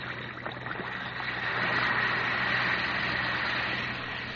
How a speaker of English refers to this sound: Well, if you have a headache, here's what to do. Just drop a tablet or two of Alka-Seltzer into a glass of water like this. Listen to it fizz.